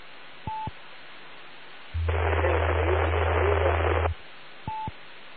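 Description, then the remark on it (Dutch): Steady radio hiss with two short beep tones at either end, and between them a loud two-second burst of crackling static over a low hum: an amateur radio transmission from someone very far down in the noise, with only fragments of the message coming through. “Nou, ik hoor nog iemand, maar die zit echt nog heel verschrikkelijk ver in de ruis.”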